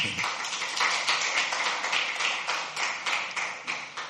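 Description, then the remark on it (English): A church audience applauds the worship team, many hands clapping together in a dense, steady wash that holds at an even level for several seconds with no voices over it. “Clap for the worship team.”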